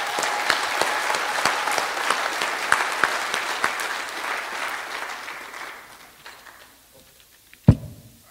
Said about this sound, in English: We have had some very faithful volunteers who help out with children's ministry each Sunday. They will get a break for the summer, but give them a big round of applause for loving and serving the kids.